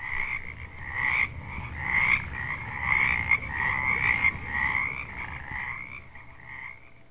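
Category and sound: animal, frogs croaking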